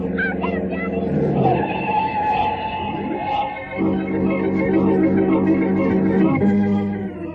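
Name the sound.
speeding car approaching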